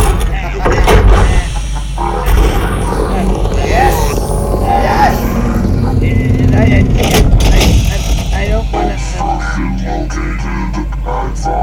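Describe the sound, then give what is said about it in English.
An ice cream truck rumbles and grinds steadily as it is hauled off a property, its low engine drone joined by mechanical clunks and creaks, with indistinct voices faintly underneath. “Take that ice cream truck and deliver it from my property.”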